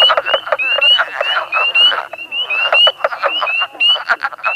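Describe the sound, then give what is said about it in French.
A dense chorus of male frogs calls continuously from a marsh in spring, many overlapping trilling and croaking voices forming a loud, pulsing wall of sound with no talking. “C'est aussi au printemps que toutes les grenouilles se retrouvent dans les marais et nous offrent une des plus grandes symphonies naturelles que je connaisse.”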